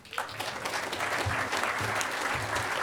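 Steady applause from an audience for a speaker who is about to introduce the event's sponsors, a dense wash of clapping that holds at an even, fairly loud level for a few seconds, with a faint murmur of voices underneath.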